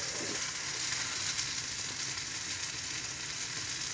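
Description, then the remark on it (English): A steady, crackling sizzle of steak frying in a pan with a small dab of Liam Perrins added, with continuous hissing and popping at an even level throughout and no voices. “I'm going to give that another 30 seconds or so, and then I'm going to flip the steak and see where we're going.”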